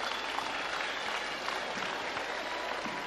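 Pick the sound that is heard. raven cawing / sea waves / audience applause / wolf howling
audience applause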